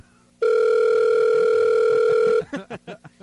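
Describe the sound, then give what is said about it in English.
A loud, steady telephone dial tone drones unbroken for about two seconds after a call disconnects, then cuts off as a voice starts speaking. “What happened? The phone disconnected.”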